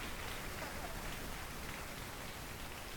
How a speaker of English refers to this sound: Ah, I love the rain. Well, is it on a rainy day? It's a heavy rain.